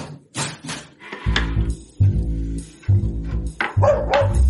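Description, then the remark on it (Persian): A dog, Hap Hap, barks loudly, a run of four drawn-out barks following one another in quick succession, with a few scuffling noises just before. “هاپ هاپ برو کنار ببینم نکنه بازم با پاد زدی کاسه رو هل دادی پشت کمد.”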